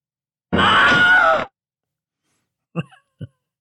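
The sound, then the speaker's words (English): A voice lets out a loud, strained, one-second spooky scream imitating a haunted-house scream, followed after a pause by two short, quieter vocal noises. “Not the best scream for that, but I wish I would have arranged it to stay there a night or two to see how haunted it really is.”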